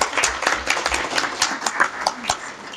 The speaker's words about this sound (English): I think she needs a round of applause at least.